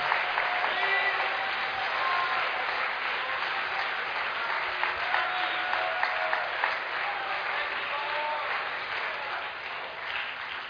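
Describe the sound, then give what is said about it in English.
An audience claps together in sustained, dense applause for about ten seconds to praise God during worship, many hands at once, with faint voices and a few tonal cries rising through it. “Let's clap our hands and let's magnify Him together.”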